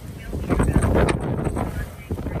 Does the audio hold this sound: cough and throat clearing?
no